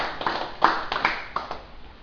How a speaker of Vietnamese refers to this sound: Xin quý vị vỗ tay một tràng pháo tay.